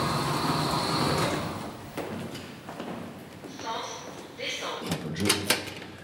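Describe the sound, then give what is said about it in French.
Elevator doors slide open at the seventh floor with a rumbling whoosh, followed by a few clunks and rattles as they settle. Moderately loud, with a voice briefly audible underneath. “Septième étage. Ouverture des portes.”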